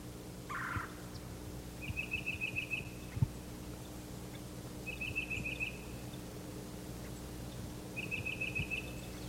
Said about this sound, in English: There's a parula warbler.